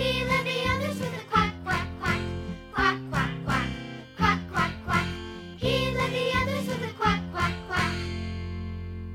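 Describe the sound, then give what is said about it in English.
A duck quacks over and over in quick rhythmic bursts, loud, with a steady musical backing beneath the quacks and a held tone fading out at the end. “But the one little duck with the feather on his back, he let the others with a quack, quack, quack.”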